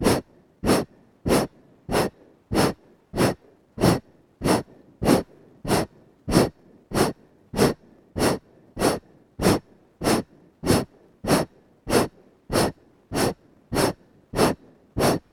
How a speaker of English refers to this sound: Take one big inhale. Exhale, breathing. A little faster.